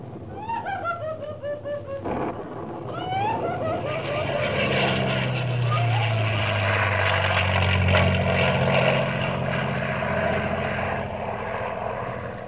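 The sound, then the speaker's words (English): Airplanes roar past, a loud, sustained engine rumble swelling up and droning on, preceded by brief wavering, wail-like tones at the start. “Then there was some lightning crying and airplanes zooming by.”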